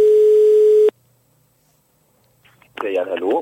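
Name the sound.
telephone ringing tone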